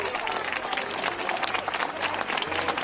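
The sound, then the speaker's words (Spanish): Steady, dense clapping from hospital staff at the IFEMA coronavirus field hospital as it closes, sustained and loud throughout with no pauses, a continuous wash of many overlapping hand claps. “Ha habido aplausos al concluir este episodio que se recordará mucho tiempo.”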